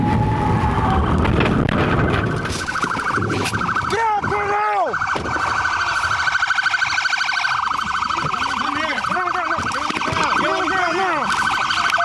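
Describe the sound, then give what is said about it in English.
A police siren wails in repeated rising and falling sweeps over loud, steady road and engine noise as deputies near Key West, Florida, in 2020 try to stop a Mustang speeding at 110 miles an hour, with a brief lull before the wailing picks up again. “In 2020, near Key West, Florida, deputies tried to stop the Mustang for speeding.”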